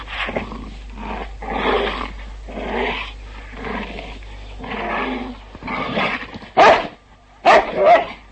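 A huge black dog, baring its teeth, growls menacingly behind a man in a steady series of deep, rasping pulses, then breaks into a couple of sharp, loud snarling barks at the end.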